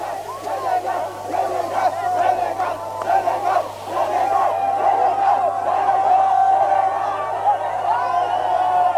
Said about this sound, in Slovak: Takto oslavovali začiatkom leta fanúšikovia senegalskej reprezentácie víťazstvo svojich futbalistov v otváracom zápase 17. majstrovstiev sveta vo futbale v uliciach Paríža.